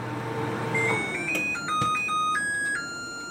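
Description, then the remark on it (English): A new LG microwave, demonstrated in a YouTube video, plays a bright electronic chime: a short, tinkling melody of several clear beeping notes stepping up and down in pitch, steady and fairly loud, with no one talking. “As an example of a company taking things a little too far, here's someone on YouTube demonstrating the sound of her new LG microwave.”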